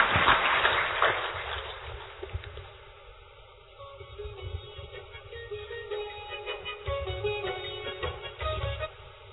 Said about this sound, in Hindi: एक बार जोरदार तालियों के साथ आप अपना अभिनंदन स्वीकार करें।